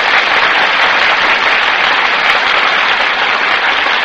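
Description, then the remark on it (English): Steady, dense applause from a large studio audience as film stars Annabella and Tyrone Power enter the Gulf stage and take their places before the Gulf microphone; a continuous hiss of many hands clapping at an even, loud level for the whole stretch, with no voices over it. “That applause, ladies and gentlemen, is for Annabella and Tyrone Power, who have just entered the Gulf stage and have taken their places before the Gulf microphone.”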